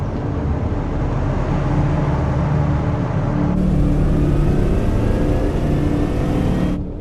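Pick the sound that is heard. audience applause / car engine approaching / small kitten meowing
car engine approaching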